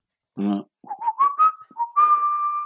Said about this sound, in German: Kann da mal jemand einen Jingle zu pfeifen, so 3 Sekunden?